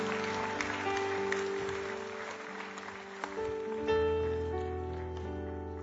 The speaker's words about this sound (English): Let's give these folks a hand clap as they're coming. There's a hand over here, a hand back there.